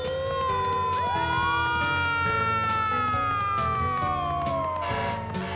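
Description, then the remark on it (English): A fire truck siren wails loudly and steadily, its pitch rising and gliding slowly over several seconds, with a busy rumbling background beneath it and no voices. “Here comes the fire truck!”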